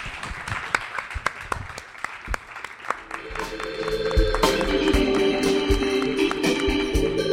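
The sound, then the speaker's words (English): Audience applause at Beatyard begins as scattered, separate claps. After a few seconds it swells into a dense, steady wash of clapping with tonal sounds mixed in, staying loud to the end. “Big round of applause.”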